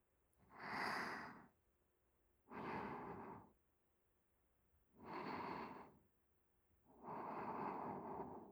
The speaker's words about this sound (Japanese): おまんこも抱きしめ合ってる体も、お兄さんの疲れ切った息遣いも、何もかも癒される幸せ。